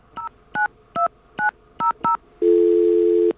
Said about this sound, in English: But let's get our friendly dial tone. All right. Let's dial WBAI first, so that you know just what we're dealing with.